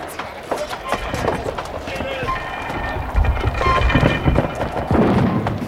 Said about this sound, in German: Die Natividad feuert schon. Wir sind noch viel zu weit voneinander entfernt. Viel zu kurz. Diese Narren. Da, wieder ein Schuss. Auch zu kurz.